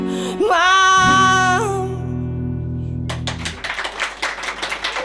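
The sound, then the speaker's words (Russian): A long held sung note and sustained music fade out, then a burst of enthusiastic audience applause breaks in for the last couple of seconds, a dense crackle of many hands. “О, какие бурные аплодисменты.”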